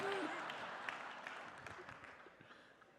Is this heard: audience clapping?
yes